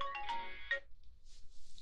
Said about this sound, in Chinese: 等一下，我男朋友怎么每次都是这个时候打电话？